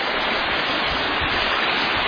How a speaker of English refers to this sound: Down here, the creek will start widening out.